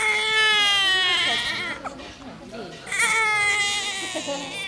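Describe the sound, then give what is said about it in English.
Newborn babies wail loudly in two long, wavering bursts with a short break between them, in a brightly lit maternity hospital room of bassinets in Romania. The thin, high cries overlap and fill the room. “This is the Panay Serbu Maternity Hospital, one of hundreds of hospitals in Romania dedicated to newborns and their mothers.”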